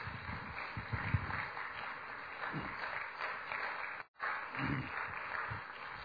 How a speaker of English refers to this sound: You see, you're still doing the golf clap. You're still doing the golf clap.